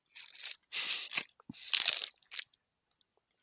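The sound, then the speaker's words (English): Loud crunching as someone bites into a crispy taco shell: three or four sharp, crackly bursts over a couple of seconds, then a few faint chewing crackles fading to quiet. “Did you hear the crunch? Oh, yeah. Sounds crispy.”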